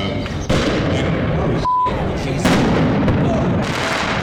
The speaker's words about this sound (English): While the action was peaceful throughout, at one point, large fireworks were set off in the crowd, causing alarm. They sounded like bombs.